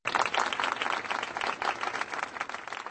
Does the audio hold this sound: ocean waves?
no